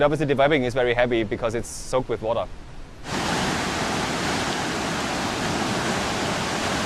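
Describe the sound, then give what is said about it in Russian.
A voice speaks for a few seconds, then a loud, steady roar of Victoria Falls on the Zambezi River, on the border of Zambia and Zimbabwe, 120 metres high and 1800 metres wide, takes over, a dense continuous rushing that holds unbroken to the end. “Водопад Виктория находится на границе Замбии и Зимбабве на реке Замбези.”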